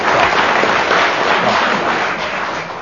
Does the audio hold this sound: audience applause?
yes